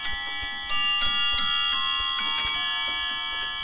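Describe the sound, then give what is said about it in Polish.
An 18th-century French mantel clock on the fireplace in the palace of the Zamoyski Museum in Kozłówka, decorated with gilded brass and tortoiseshell and topped by a figure of Chronos, chimes with bright, ringing bell tones that sustain and overlap, with a few distinct strikes close together. No talking. “Na kominku zegar francuski z XVIII wieku, także możemy powiedzieć, że tyle sobie lat liczy, ile pałac.”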